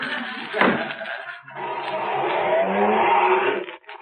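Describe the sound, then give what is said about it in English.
A sharp delivery truck door slam rings out, then the truck's engine rumbles up and keeps roaring steadily as it pulls away, loud before cutting off at the end. “You want a lift to my delivery truck?”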